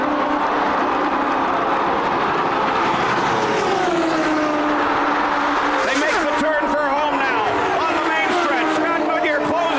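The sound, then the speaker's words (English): High-pitched racing engines scream and drop in pitch as race cars rush past on the backstretch on the last lap at 223 miles an hour in a 1992 race, one early then a dense cluster in the second half, loud, with a voice talking over the roar. “They're on the backstretch. 223 miles an hour on the last lap.”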